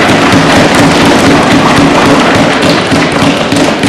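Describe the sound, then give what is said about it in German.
A loud, sustained burst of applause from a large crowd at the close of a council session, thanking the staff for their work, many hands clapping at once in a dense, steady crackle that holds for several seconds with no voices on top. “Das Protokoll stelle ich fest, dass dies der stärkste Beifall war, der heute zu hören war.”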